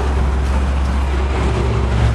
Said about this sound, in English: You can kind of hear the echo from the cars.